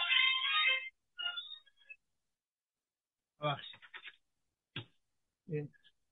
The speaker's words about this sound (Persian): زنگ تلفن من سرود ایران. تلفنم من مواقعی که نباید زنگ بزنه زنگ میزنه، اونم به بزرگواری خودتون ببخشید.